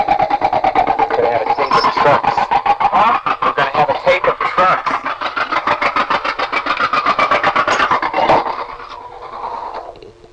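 A noisy truck rumbles past a phone booth with its door open, a loud, rapidly chattering engine that holds steady for about eight seconds, then drops off abruptly, while a man's voice speaks beneath the din, telling someone to close the booth door.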